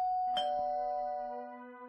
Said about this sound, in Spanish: Pero llamé el timbre